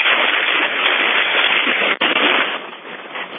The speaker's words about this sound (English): What is happening? Is that rain? That's rain. Yeah, we're getting a first-hand account here. It sounds like you're being swept away.